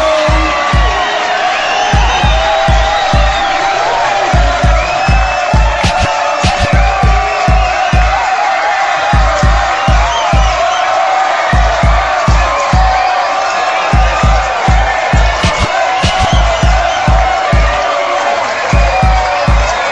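A loud crowd of men shouting "ho" together in a dense, continuous roar over a steady pounding bass beat, their chant rising and falling in answer to a call for the fellas to say ho.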